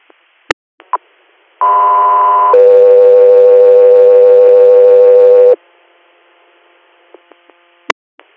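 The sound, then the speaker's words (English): A two-tone dispatch alert for a patient facility transfer from Oswego, New York, to Rochester, New York: a loud, steady higher tone for about a second, then a longer lower tone for roughly three seconds, framed by sharp radio clicks before and after. “Go through here, stand by for tones.”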